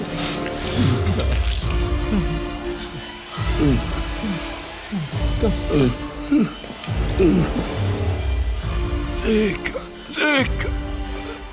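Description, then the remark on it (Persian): A few sharp gunshot cracks ring out at irregular intervals, each a sudden loud burst, while agitated voices shout and talk over the commotion. “پدر صدای شلیک میاد.”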